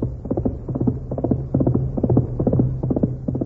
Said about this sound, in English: Golly, look at that horse run. Really fast, all right.